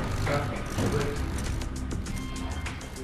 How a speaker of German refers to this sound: Er holt ein Kabel und die kleinen Motoren summen.